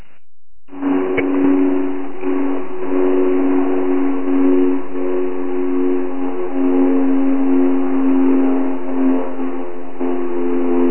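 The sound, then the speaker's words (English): A steady, droning airplane engine passes overhead, a loud harmonic hum holding nearly constant for about ten seconds with a slight wavering in pitch, and no one talking. “Nice airplane.”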